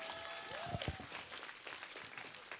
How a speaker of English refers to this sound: Give a lot of clap offering, somebody.